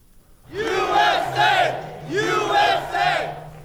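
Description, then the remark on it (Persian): A large crowd of Donald Trump supporters in Florida cheers and chants as media announce the unofficial US election result, in rhythmic bursts, four loud swells of massed voices rising and falling over about four seconds, with a steady low hum underneath. “شادمانی هواداران دونالد ترامپ در لحظه‌ای که رسانه‌ها نتیجه غیر رسمی انتخابات آمریکا را اعلان کردند.”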